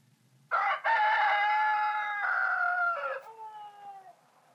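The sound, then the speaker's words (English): A rooster crows once, loud, a long harmonic cock-a-doodle-doo lasting about three seconds that trails off into a fainter tail, with no talking. “Sounds two and three were roosters.”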